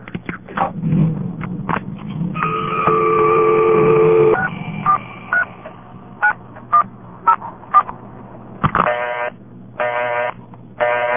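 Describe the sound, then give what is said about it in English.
Touch-tone dialing of a payphone number on a payphone after a dime is dropped in: a series of short, clear beeping tones at an uneven pace, with a longer steady tone and faint background hum, no talking. “I'll dial the payphone number.”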